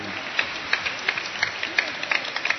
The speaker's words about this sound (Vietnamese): Chính xác, cho một tràng pháo tay.